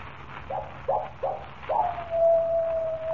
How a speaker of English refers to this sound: That is the second time. When the coyote howls three times, I die.